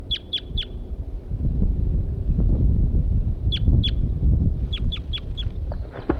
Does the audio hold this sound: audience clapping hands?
no